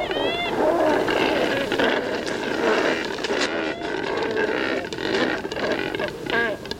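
A noisy colony of cormorants loafing and drying their feathers in the sun, croaking at their neighbors, with many harsh, guttural calls overlapping into a continuous loud chorus, and a few higher, drawn-out cries rising above it.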